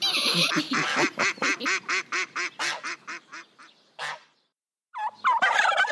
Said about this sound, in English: Turkeys. The adult female turkey is called a hen. The adult male is called a tom. A group of adult turkeys is called a rafter.